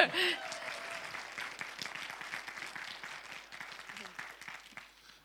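A small group claps in a steady, dense patter of many overlapping hand claps, starting with a loud burst and gradually thinning and fading out over about five seconds.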